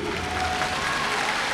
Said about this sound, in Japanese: 気をつけ、礼。拍手。